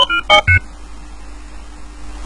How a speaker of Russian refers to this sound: Я уже заучил эти вот пиканье.